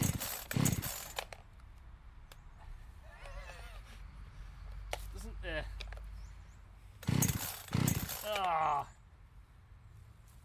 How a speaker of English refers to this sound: It burped, didn't it? Yeah. It gave us an initial little belch of excitement. Yeah. Hold the saw unit securely on the ground, pull the starter up vigorously.